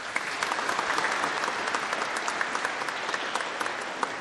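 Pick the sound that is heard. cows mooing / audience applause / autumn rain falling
audience applause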